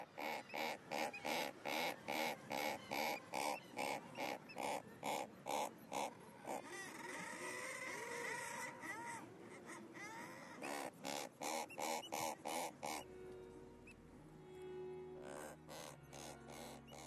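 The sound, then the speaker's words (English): A razorbill calling from the rock crevice or hole where it nests gives short, reverberant, harsh growling calls in a rapid, steady series of loud bursts, broken by a longer drawn-out groan midway, with lower moaning calls near the end. “And razorbills seem to use their immediate acoustics of the crevices and holes in which they nest and vocalise to produce this short, reverberant call.”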